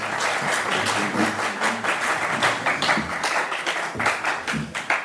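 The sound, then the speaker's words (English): Journalists applaud at a World Cup press conference with Carlos Queiroz, steadily for about five seconds, many hands clapping in a dense, crackling wash with a few sharper individual claps standing out near the end. “There was a lot of, I mean, there were three moments where the journalists in attendance gave rounds of applause.”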